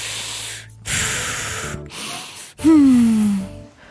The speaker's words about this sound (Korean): 숨소리가 너무 컸거든요. 게다가 마스크를 끼고 있어서 펑, 펑 두 배로 거슬렸죠.